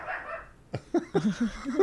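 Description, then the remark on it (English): A female watchdog lets out a quick run of short, sharp barks, about five in a row, at someone coming down the stairs, after a brief muffled rustle at the start. “She knows. The dog. I've never heard her do that. When she hears somebody coming up the stairs.”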